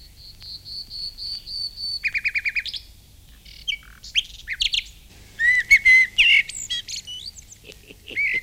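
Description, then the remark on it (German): Crossbill calls: bursts of sharp, high chirps in quick runs and scattered clusters, some clear and fairly loud, after an opening stretch of steady high buzzing. No one speaks. “Kreuzspinn und Kreuzschnabel.”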